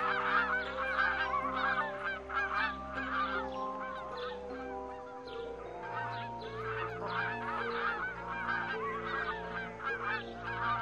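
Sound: geese honking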